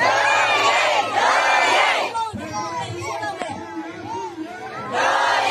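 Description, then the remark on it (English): A large crowd in towns in Myanmar shouts and chants in rhythmic unison, cheering on the resistance after the coup with the chant "our cause, our struggle". The chanting is loud, with a quieter stretch of scattered voices in the middle before it swells again. “Whole towns are cheering on the resistance, chanting, our cause, our struggle.”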